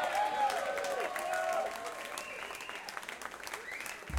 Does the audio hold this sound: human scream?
no